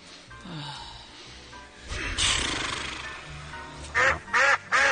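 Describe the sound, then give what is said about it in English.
Flying ducks quack loudly, with three sharp nasal calls in quick succession at the end, following a stretch of rough, noisy background rustle and fainter earlier squawks. “Hey, it's those ducks.”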